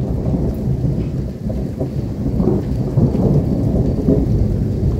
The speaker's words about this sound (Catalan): Així sonaven els trons aquest dimarts a la nit, en una tempesta amb vent, llamps i de les que feia temps que no vèiem, sortosament, sense fer mal.